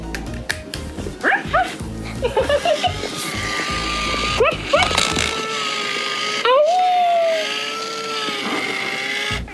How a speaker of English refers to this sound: Wow, that sounds like a dog. A robot dog.